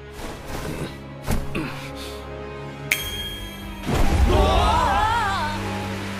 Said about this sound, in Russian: Дождь? Откуда? Вот это ливень.